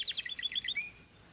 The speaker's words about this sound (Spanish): Mira que ya salió el señor sol, los pajaritos.